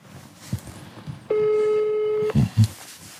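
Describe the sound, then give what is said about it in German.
A phone line's ringback tone of an outgoing call placed from Germany sounds once, a steady, fairly loud electronic hum lasting about a second, then a couple of soft, low clicks or bumps follow over faint background noise. “Unsere Kollegen vom ZDF, mit denen wir für diese Recherche zusammengearbeitet haben, rufen aus Deutschland bei ihm an.”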